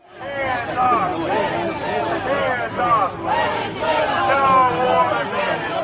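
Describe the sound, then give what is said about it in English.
A large crowd of protesters supporting Venezuelan President Maduro, waving Venezuelan flags, chants and shouts together in loud, continuous waves across the street from a courthouse in Lower Manhattan early in the morning, many voices overlapping with rising and falling rhythmic calls throughout. “Here's a bit of what the crowd sounded like.”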